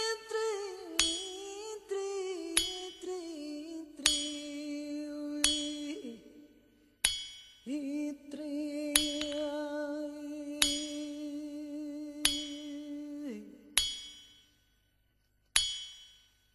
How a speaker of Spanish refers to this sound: Hay un martillo se trabaja mejor con música.